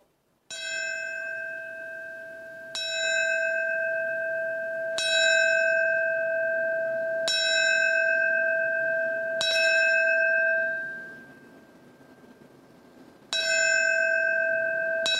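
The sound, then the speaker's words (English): The New York City Fire Department bell struck five times at slow, even intervals at a ceremony, each clear metallic ring sustaining into the next, then a pause before another strike starts a new set; it rings 20 times in four sets of five, the traditional signal for a fallen firefighter. No voices. “The ceremony will start with the ringing of the New York City Fire Department bell.”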